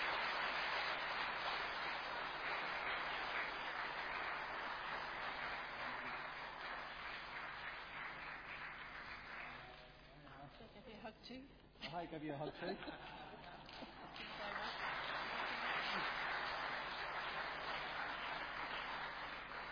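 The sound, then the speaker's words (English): Sustained audience applause for people being thanked and given bouquets, a dense steady patter of many hands that eases briefly midway while a few voices and chuckles come through, then swells again and carries on to the end. “But we'll embarrass them, and they too can stand and face you good folks, and we'll pass on to them our thanks, and they're worthy of applause, please.”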